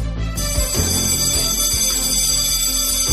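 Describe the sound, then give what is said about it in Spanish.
A school bell rings steadily and loudly for about three seconds, a continuous buzzing, metallic tone rich in high overtones, with no voices over it. “Suena el timbre del colegio, porque precisamente vamos a hablar de ellos.”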